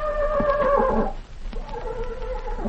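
Ken Maynard's movie horse Tarzan whinnies loudly, a wavering high neigh for about a second, followed by a shorter, quieter second whinny with some soft background noise.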